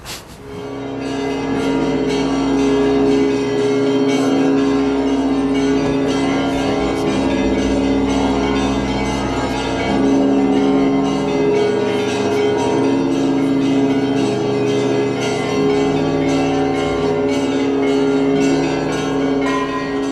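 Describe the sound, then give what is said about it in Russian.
A full peal of church bells, rung by a bell-ringer from a belfry, rings loud for the whole stretch, overlapping strikes blending into a dense, shimmering wash of sustained tones with a steady, rhythmic pulse. “Вообще много радостных моментов бывает в жизни звонаря?”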